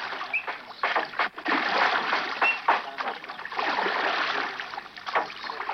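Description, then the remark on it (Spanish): Steady water sloshing and splashing around a large group of rafts moving through the sea at night, with a continuous rushing wash and occasional sharper splashes, constant throughout. “En medio del mar y de la noche, un grupo grande de balsas avanzaba aparentemente hacia ningún lugar.”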